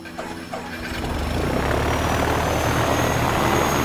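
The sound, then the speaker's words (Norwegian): A Widerøe propeller airliner's engines roar up from a lower rumble to a loud, steady drone with a high whine above, continuous, as the plane takes off from Namsos Airport at 20:07 and heads north. “Klokka 20.07 tar Widerøes rute 7.10 omsider av fra Namsos lufthavn og set kursen nordover.”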